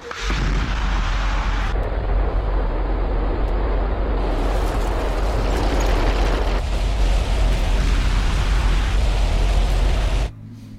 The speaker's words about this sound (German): Okay, wir hören uns jetzt den Sound einer Methanrakete an. Ihr lasst die Mikros offen, dann können Sie das kommentieren. Es spricht für sich selber. Ignition jetzt.